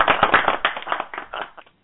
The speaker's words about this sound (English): Oh. There you go. Did you like that? It sounds real. I love hand clapping.